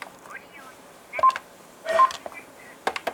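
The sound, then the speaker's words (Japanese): A short electronic keypad beep as the number 1 is pressed on a telephone to hear the last caller's number from the Japanese Number Notification 136 service, heard briefly and clearly, with faint muffled voice-like sounds and light background noise around it. “最後にかかってきた相手の方の電話番号をお知らせする場合、数字の1を押してください。”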